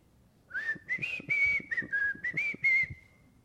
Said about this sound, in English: The song that I whistled was the familiar lullaby, Rock-a-bye Baby.